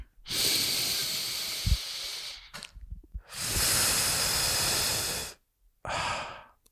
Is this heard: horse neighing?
no